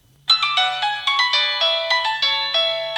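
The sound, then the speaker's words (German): A phone's text message alert, for an SMS sent to all Kenyans, plays a quick, bright electronic melody of chiming notes in steady rhythm, loud, over a faint low hum with no voices. “SMS an alle Kenianer.”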